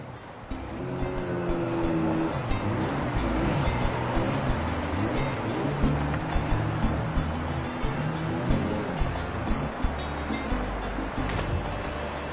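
A motorboat engine drones steadily throughout, its low hum wavering slightly over a continuous wash of water and wind noise, fairly close and loud, with no talking.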